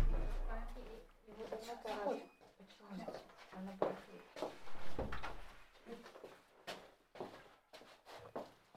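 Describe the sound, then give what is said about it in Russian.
Two doors are shut with a few dull thuds and knocks, one heavier bang standing out midway, while muffled voices murmur around them. “Нет, да вы закрывайте просто две двери, и все, будет, тогда тихо будет.”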